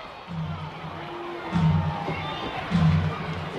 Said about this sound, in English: Friday night crowd here at Salem Field trying to get behind the home team.